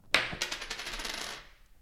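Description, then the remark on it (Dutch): A tossed coin strikes a hard surface with a sharp metallic clink, then spins and rattles in a rapid, ringing flutter that slows and settles over about a second, landing heads. Clear, no voices. “En nou kunnen we natuurlijk gewoon lekker torsen met een muntje.”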